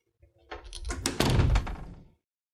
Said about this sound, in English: You may close the door now.